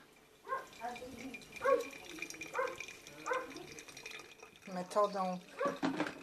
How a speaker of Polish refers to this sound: Pieska pewnie też słychać mojego tam zza płotu.